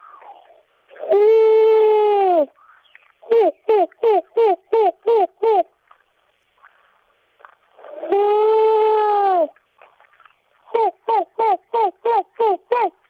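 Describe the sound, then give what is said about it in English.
A person imitates an owl hooting: a long drawn-out hoot followed by a rapid run of seven short hoots, then the whole pattern repeats. The voice is clear, with no other sounds. “and this is my owl sound.”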